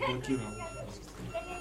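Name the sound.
whimpering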